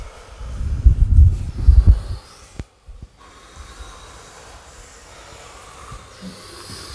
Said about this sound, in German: Die dritte Runde ist der Mundatmung gewidmet. Wenn durch den Mund atmen, ein und aus.